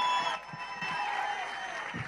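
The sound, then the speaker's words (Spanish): A crowd applauds and cheers for a man's mother, a steady, dense wash of clapping with high whistle-like tones threading through and a few low murmurs underneath. “Un aplauso, por favor.”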